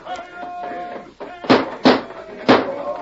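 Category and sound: household object, door being flung open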